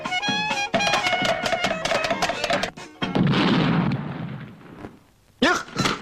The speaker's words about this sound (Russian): Не хлопайте дверью.